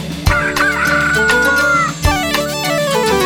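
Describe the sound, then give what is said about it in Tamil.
A rooster crows in a long, drawn-out call over steady background music, with a couple of sharp percussive hits; the crow is loud, and nobody speaks. “கொக்கரக்கோ கொக்கரக்கோ கோழி கூவுது, குரையிலே ஏறி நின்னு கூவி பார்க்குது.”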